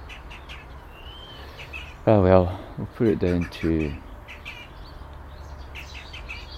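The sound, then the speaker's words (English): A female blackbird calls outdoors in a garden with short, high chirps at the start and again near the end. A voice speaks briefly in the middle over a steady background hiss. “There's no cock blackbirds that I can see around the garden at all.”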